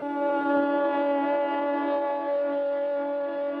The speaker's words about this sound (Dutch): Dan breekt het sireneconcert los.